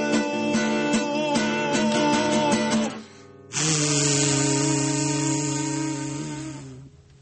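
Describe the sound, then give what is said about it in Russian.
Trumpets imitate a steamship horn: a bright, wavering brass chord for about three seconds, a short break, then a lower, loud sustained blast that slowly fades. No one speaks. “Пароходный гудок изображен стараниями.”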